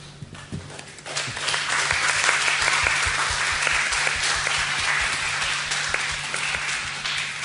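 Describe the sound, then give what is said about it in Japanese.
An audience at a public live broadcast at Tokyo Culture Culture in Odaiba, Tokyo, bursts into applause, many hands clapping in a dense, steady crackle that swells after a second and holds at a fairly loud level to the end, with no voices over it. “いや、今日はカルカルお台場東京カルチャーカルチャーから、はい、の公開生放送ということで、皆さん今拍手が聞こえたんじゃないかと思いますけど”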